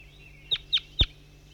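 A bird, identified as bird 5-3, gives three short, sharp high-pitched calls in quick succession, each a bright chirp, the last one loudest with a thump under it, over a faint steady background hiss.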